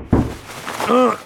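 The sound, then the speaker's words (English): A single loud heavy thud of someone banging on a wooden stable door, followed by a brief, rising tonal sound that could be a voice or a creak. “The livery man awoke to the sound of banging on the stable door.”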